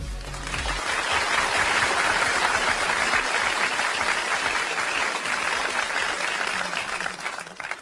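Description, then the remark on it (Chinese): An audience of the Chinese program Shuma Tiandi (Digital World) claps to welcome a teacher for its Shuma Jiangtang (Digital Lecture) segment, a dense, sustained burst of applause lasting several seconds, loud and even throughout with no voices, easing slightly toward the end. “好，下面我们拉开今晚数码天地的第二个板块，数码讲堂，掌声有请”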